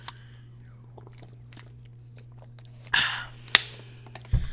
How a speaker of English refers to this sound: So now I have my water here. Let's go ahead and crack this bad boy open.